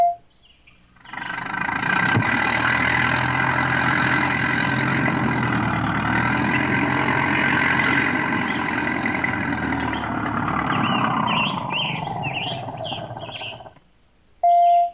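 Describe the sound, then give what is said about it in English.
The engine of a square, white truck idles with a steady, low rumble as it pulls up beside a rose bush, starting abruptly and running for about thirteen seconds before cutting off, with faint chirps of birds near the end. “a square, white truck pulled up beside the rose bush where Mr. Fitzgibbon was waiting with his tractor”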